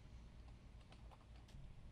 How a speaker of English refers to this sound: Am I the only one that hears keys being pressed somewhere? That's my keys.